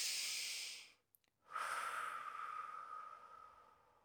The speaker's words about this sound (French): Profite de cette diffusion au gré des respirations. Parfois, ça peut prendre une grande respiration.